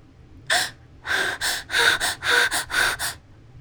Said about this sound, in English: Oh my God, oh my, sorry, I had to yawn for a second.